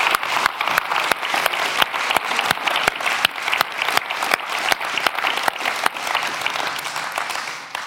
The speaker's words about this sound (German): Und wir geben doch einfach mal jedem, der heute am Dienen ist, in dieser Halle einen ganz, ganz grossen Applaus. Danke viel, viel mal.